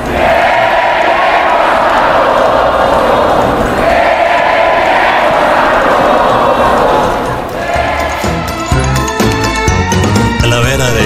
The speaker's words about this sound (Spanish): El Checo sabroso, le gritaban al Checo Pérez el domingo, toda la tribuna.